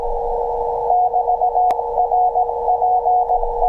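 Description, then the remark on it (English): A steady electronic tone around one kilohertz pulses in rapid on-off Morse code patterns, loud and continuous over faint background hiss, with a brief click partway through. It is a radio signal at 375 megahertz leaked from a Raspberry Pi's Ethernet link, carrying exfiltrated data. “Very nice Morse code. Good signal.”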